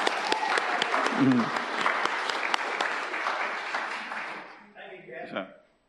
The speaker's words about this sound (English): Give him a little clap as he comes forward.